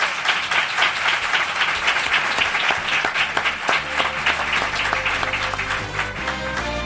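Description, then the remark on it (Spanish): An audience applauds itself steadily at the speaker's invitation, a dense wash of many hands clapping at an even, loud level throughout, with no voices rising above it. “¿Quieren ustedes aplaudirse a ustedes mismos?”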